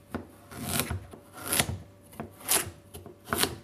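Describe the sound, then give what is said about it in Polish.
A knife chops through bell peppers on a cutting board in a steady series of crisp strokes, roughly one every second, with soft scraping between cuts and no talking. “Kolega właśnie tam kroi paprykę”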